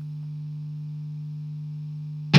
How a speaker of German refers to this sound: Soll ich mal noch einen spielen, dann kann ich den brummenden Verstärker nämlich ausmachen.